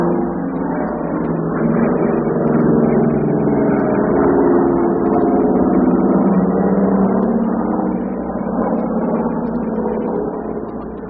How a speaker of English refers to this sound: Perhaps you can hear the plane coming directly overhead.